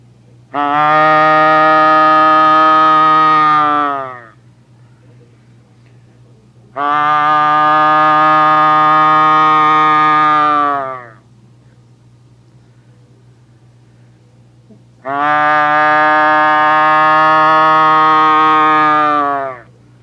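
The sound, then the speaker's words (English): Three long, loud, drawn-out cow moose calls, each about four seconds of a nasal, harmonic moan that holds a steady pitch, separated by short pauses. A hunter imitates the calls, adding volume and length to reach a bull moose, with no talking. “And all you're doing here is adding a little more volume and a little length to your cow moose call.”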